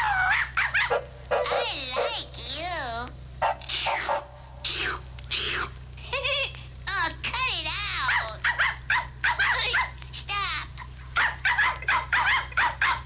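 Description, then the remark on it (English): A small, puppy-like dog yaps and whines in rapid, high-pitched bursts, fairly loud, with a steady low hum running underneath throughout. “Yep, a dog. A puppy-like dog.”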